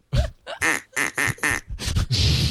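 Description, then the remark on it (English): An Acme duck call, made in England, is blown in a quick series of loud, raspy quacks, about six honking bursts in a row, clear with no talking. “That's the Acme duck call, made in England.”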